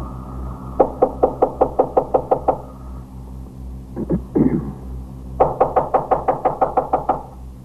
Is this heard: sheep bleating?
no